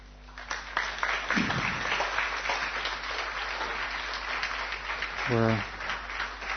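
An audience applauds a speaker after his talk on a forthcoming book about the Gaudiya Math, a steady, dense wash of many hands clapping at an even level for several seconds, with a brief vocal sound rising near the end.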